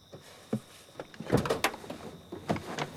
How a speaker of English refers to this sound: Opening the driver's door